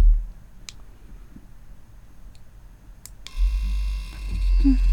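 A few faint clicks, then the vibrating part of a blue vibrator switches on at its lowest setting past the midpoint and keeps up a steady, gentle electric buzz until the end, with soft handling rustle underneath.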